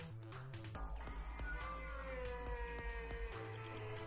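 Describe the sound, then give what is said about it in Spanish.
A cat screeches and yowls in a long, wavering, drawn-out cry with shifting pitch, loud, lasting several seconds with no one talking. “¿El sonido de gato chillón fue a propósito o eso fue sonido ambiental?”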